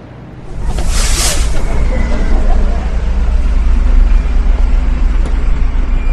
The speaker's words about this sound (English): Well, I listen for the traffic. I try not to get killed.